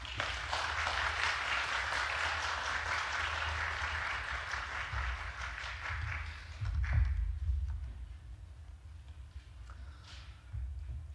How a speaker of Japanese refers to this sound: それでは拍手でお迎えください。